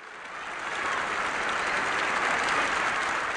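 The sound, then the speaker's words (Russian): Loud, stormy, prolonged applause greeting Nelson Mandela's speech at the UN General Assembly on 11 February 1990, broadcast by UN Radio: a dense wash of clapping from a large crowd that swells in over the first half second and then holds steady without pause or voices. “Его встретили бурными, нескончаемыми аплодисментами.”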